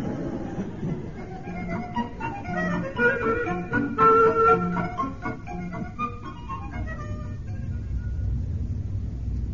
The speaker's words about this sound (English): There's always the engine room, of course. Perhaps the steady rhythm will lull you to sleep. I doubt it, sir. You haven't heard our engines.